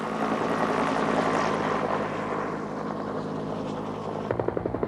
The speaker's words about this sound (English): Each helicopter carries a huge bucket holding 250 gallons of water. They release the water over the fire like a very, very heavy rainfall.